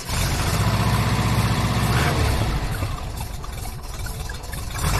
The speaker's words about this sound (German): T3 Bulli mit einem 2-Liter-Motor, Baujahr 1980, so ein richtig schöner Oldtimer.